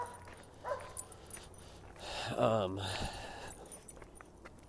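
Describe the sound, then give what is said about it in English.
A dog whimpers and yips in a short whining burst near the middle, with a fainter yelp earlier, set against steady outdoor background noise, among the many dogs around the area. “These dogs around here are just, they're all over.”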